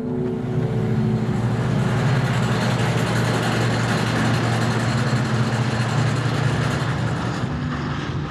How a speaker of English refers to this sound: In some parts of the country right now, that sound, hydraulic drills and compressors used in fracking, is a constant presence.